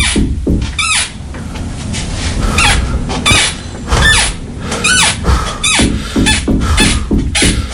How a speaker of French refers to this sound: Les lits s'agitent, claquent, tremblent autour de vous.